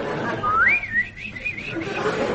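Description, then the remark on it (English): A person whistles a quick, warbling birdlike trill, rising then wavering up and down in high pitch for about two seconds, imitating birds twittering along a country lane. “As I walk down the country lane, I hear the birds twittering.”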